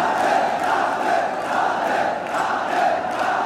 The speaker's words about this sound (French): L'émotion de cette foule en liesse est palpable. Tous ses fidèles sont venus pour rendre hommage à Krishna. Mais c'est pourtant le prénom de son amante, Radhe, qu'il crie.